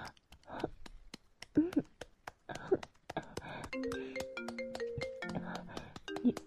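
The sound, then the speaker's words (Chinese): A person talks briefly, then a phone's melodic ringtone starts up for an incoming call from a father, its steady electronic notes repeating clearly for the last few seconds. “你爸爸来电话了，不要接，求你了，别接。”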